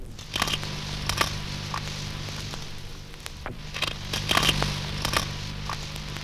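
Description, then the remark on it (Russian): A dentex fish crunches while feeding: a series of sharp, irregular crackling bites, some in quick pairs, over a steady low underwater hum. “Зубарик хрустит по-своему.”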